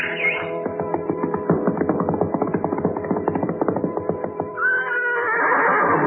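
A black stallion whinnies loudly: a long, quavering, pulsing neigh that opens with a high squeal and ends in another rising cry, with no talking.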